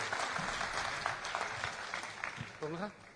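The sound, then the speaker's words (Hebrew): A group claps steadily, producing a dense, crackling patter of many hands that holds at an even level throughout; a voice calls out briefly over it near the end. The applause celebrates someone completing a Talmud tractate (Ta'anit). “מפחה במחיאות כפיים.”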